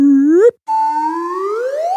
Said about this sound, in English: And I was wondering that, you know, with one or two or three or four Pinocchios, there is a sound effect associated, a slide whistle.